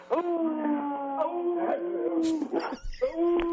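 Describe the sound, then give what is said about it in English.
A dog named Max howls over a phone line in long, wavering, drawn-out tones that sound thin and tinny, breaking briefly before a final rising howl. “The dog. You heard the dog.”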